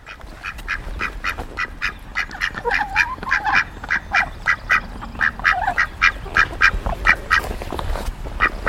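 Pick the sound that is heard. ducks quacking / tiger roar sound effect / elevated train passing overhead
ducks quacking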